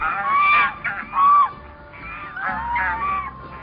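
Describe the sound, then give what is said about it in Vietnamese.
A flock of white swans honking as they fly overhead, several overlapping nasal calls in uneven bursts, with a few louder, higher honks standing out above a steady chorus. “Một ngày nọ, thái tử đang ngồi trong giường, có một đàn thiên nga trắng xóa bay ngang trên đầu.”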